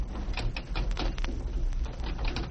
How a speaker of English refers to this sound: Door's locked. It can't be. There's been no key turned in that lock for years. Then it's jammed.